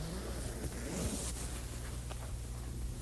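A tent zipper in a yard is pulled shut with a short, raspy zip lasting about a second, fairly quiet, over a low steady background hum. Nobody speaks.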